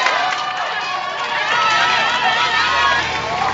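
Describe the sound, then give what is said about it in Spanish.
A roadside crowd in France cheers and shouts loudly as cyclist Julien Alaphilippe passes the COPE broadcast booth about 600 m from the finish. Many high, overlapping voices form a continuous roar that swells slightly in the second half and holds steady for several seconds. “Así suena el paso de Julien Alaphilippe por delante de la cabina de transmisiones de la cadena COPE.”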